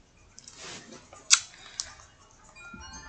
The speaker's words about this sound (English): Let me roll my silly little dice. Watch me roll a one and end up on the red space. Okay, damn. A six.